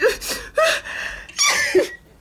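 Three loud sneezes burst out in quick succession, each with a sharp breathy explosion and a voiced edge, with no other sound around them.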